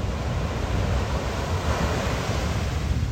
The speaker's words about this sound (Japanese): 母なる海かい。この来る時の先っちょ白いのなんだ。おーめっちゃ、おい来るんかい、足まで来るんかい、波の来る位置一定にせんかい。おい今度来ないんかい、もっと来いよ、来ないんかい。